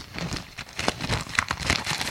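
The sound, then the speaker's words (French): A father folds his newspaper with a run of papery rustles and crisp crinkles, irregular and fairly soft, with a few sharper snaps of the sheets. No one speaks. “Père plie son journal.”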